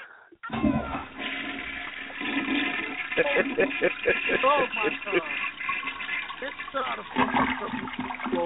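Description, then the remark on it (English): A toilet flushes with a loud, steady rush of water that starts abruptly and roars for about eight seconds, while voices talk and laugh over it. “I'm gonna make sure I use the bathroom and don't flush”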